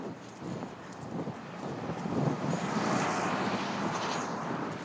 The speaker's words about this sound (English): Sounds like the level crossing's down here, really close, so there's a sort of rumbly noise.